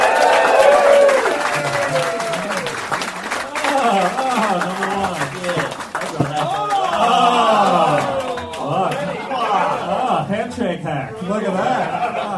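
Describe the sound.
A crowd claps steadily for several seconds while voices cheer, whoop and laugh over the applause, as guests Ben Russell, Cameron James and Nick Cody are brought out, keeping the noise loud and sustained throughout.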